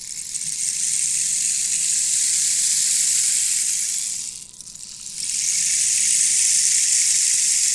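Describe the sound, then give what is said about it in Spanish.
A steady, bright hiss of rain pours continuously, briefly dipping softer for about a second before returning at full strength. No voices are heard. “¿Qué es? La lluvia.”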